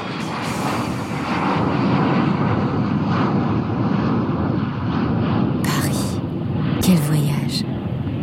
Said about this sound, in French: Nous sommes passés par l'Islande avec un avion à hélice.